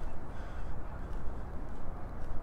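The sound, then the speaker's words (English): Several crows caw in scattered, repeated calls as they fly all over the place at first light, leaving their city roost, set against a steady wash of outdoor background noise with no one talking. “And the crows, because it's light, They're getting ready to go back to wherever they go when they aren't roosting in the city.”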